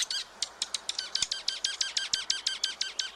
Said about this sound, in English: These small brown birds will get quite feisty around food. You'll see one bird come in to grab a bite, then another darts over and pushes the first bird off, or two birds may have a little tiff with their tails flared out.